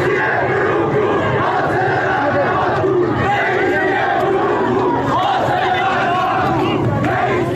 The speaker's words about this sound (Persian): در دسپول، ایزه و اهواز در شبهای گذشته معترضان اینچنین علیه مقام های جمهوری اسلامی شعار دادند.